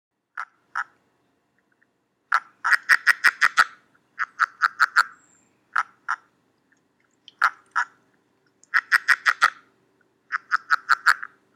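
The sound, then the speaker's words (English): Male and female frogs calling back and forth, loud: clusters of rapid, raspy croaks in short bursts separated by brief pauses, with no talking. “that is the starting of the book when you're talking about the frogs”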